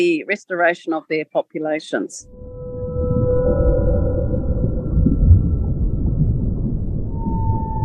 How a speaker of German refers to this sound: Der Gesang der Buckelwale. Noch immer birgt er Geheimnisse, die Wissenschaftler nicht entschlüsselt haben.